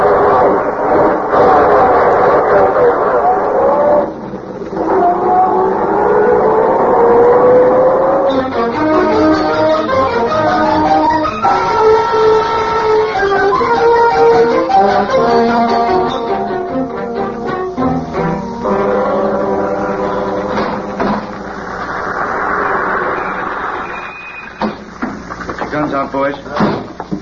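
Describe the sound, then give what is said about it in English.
A loud car engine revs, its pitch climbing, then roars steadily as the car pulls out of a garage and drives off, continuous for most of the stretch. “When I get out of the garage, you duck down. If they try to stop us, well, I'll run them down.”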